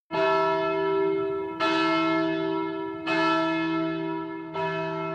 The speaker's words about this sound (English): Scrooge hears church bells.